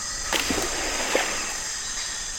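A steady, dense rainforest river ambience on the Zabalo River in Ecuador, a completely undisturbed ecosystem: a continuous high-pitched insect drone fills the background, broken by a few short chirping calls from native wildlife early on and once more midway.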